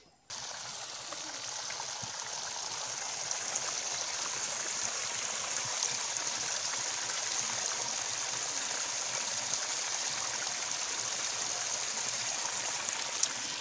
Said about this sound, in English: I've made it up the hill, and that water sound you might be able to hear is actually the beck that's made its way through the pond to our left and is now heading all the way downhill